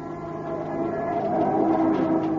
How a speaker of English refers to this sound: Oh, that crazy cab driver. He almost skidded right into us. It wasn't his fault. It's this road. It's like glass. Now, oil truck overturned here a few days ago. I tried to sand it down, but it's still slippery.